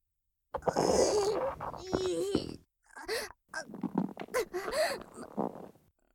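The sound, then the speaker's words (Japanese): Loud gurgling and rumbling from a stomach filling with intestinal gas after taking an intestinal activator medicine, with a long bubbling swell followed by a series of shorter squelchy, wavering gurgles and brief pauses between them. “ものすごい勢いで腸内のガスがお腹に押し寄せてくる。”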